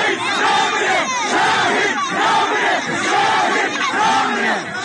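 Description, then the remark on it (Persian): A large crowd gathered in front of a house in Piranshahr, Iran, over the killing of a 16-year-old chants the slogan "the martyr does not die" in unison, loud and continuous, the rhythmic phrase repeating about four times in swelling waves of many voices. “حالا کاروان او راهی شده و مردم هستند که فریاد میزنند شهید نمیمیرد.”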